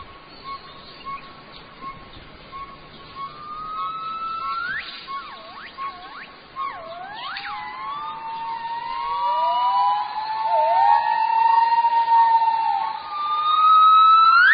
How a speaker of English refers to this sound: Gibbon song once inspired the ancient poets of China, their glorious calls echoing far across the hills.